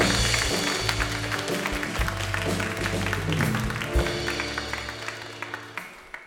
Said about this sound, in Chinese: 掌声都归俾我哋天上嘅父神。